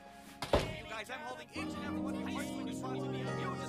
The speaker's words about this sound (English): Caitlin shuts the front door behind her.